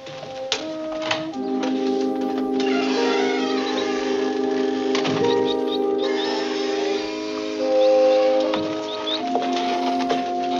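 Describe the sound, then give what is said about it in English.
A bird flaps and flutters around inside a cage, with irregular bursts of wingbeats and light scratchy patter, set against a steady sustained hum in the background. “Notice how your bird's been flopping around in there? Maybe we should get a larger cage.”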